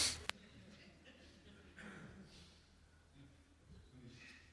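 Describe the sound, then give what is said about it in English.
Someone tries to hold in a sneeze, with a sharp click near the start, then a few soft, breathy sniffing inhales spread across the quiet moments that follow. “When you're about to sneeze and you can't.”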